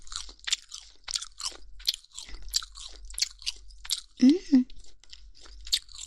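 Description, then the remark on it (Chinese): Close-up crunchy chewing of crispy food skin, a steady series of sharp crackling bites about twice a second, with a couple of louder, deeper crunches near the end and no talking. “这个皮也很脆，很有嚼劲呢。”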